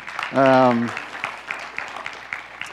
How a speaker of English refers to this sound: Somebody deserves applause. It's not me, I can tell you that.